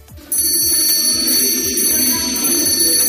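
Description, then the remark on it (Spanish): At the Italian seat of government, Mario Draghi hands Meloni the ceremonial handbell that symbolizes the transfer of power in Italy. It starts ringing abruptly and keeps going, a bright, high-pitched, shimmering metallic tone that stays loud and steady for about three seconds over a low murmur of background noise. “Posteriormente, Meloni recibía de manos de Mario Draghi esa campana que simboliza en Italia el traspaso de poderes.”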